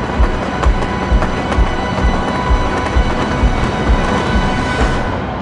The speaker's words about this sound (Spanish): Una inauguración que terminó así, con un espectáculo pirotécnico y la ovación que escuchan.